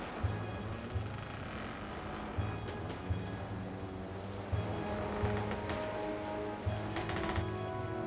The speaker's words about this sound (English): imagine yourself in the middle of the ocean on a sailing ship in 1862. Your ship is pounding into the waves, and a terrible storm is closing in on you.